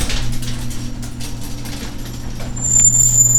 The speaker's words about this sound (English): Open the door to the garage. Open the garage door.